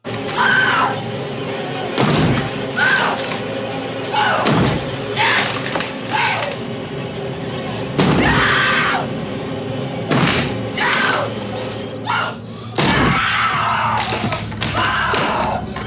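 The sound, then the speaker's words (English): An axe repeatedly chops into a wooden bathroom door: loud, heavy, splintering blows every few seconds, with some vocal sounds and background noise between the strikes. “And then lastly, when he takes an axe to him, to the bathroom door.”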